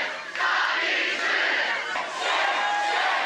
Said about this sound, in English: And then they were beating students, and we would chant at them, you know, stop beating students, stop, stop. Stop beating students! Stop beating students! Stop beating students!